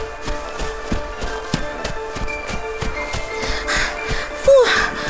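Quick, steady footsteps run along a snowy path, each step a soft crunching thud in an even rhythm, moderately loud, with a brief higher squeak near the end.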